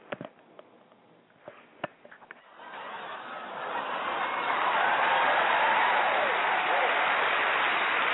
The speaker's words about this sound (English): Well, thank you, everybody. Definitely clapping it up.